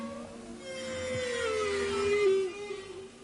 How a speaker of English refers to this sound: This is a recording of humpback whales in the distance approaching the Silverbank, a large area of coral off the coast of the Dominican Republic, which I recorded whilst on board the Dardanella.